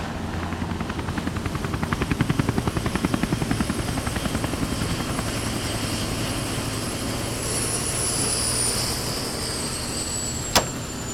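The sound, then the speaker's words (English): A Hughes 500 helicopter lands on the deck of a yacht 25 miles out to sea. Its rotor beats in a fast, steady thump over a loud engine roar and a high turbine whine, with one sharp click near the end. No one speaks. “How do you like my new ride? A Hughes 500?”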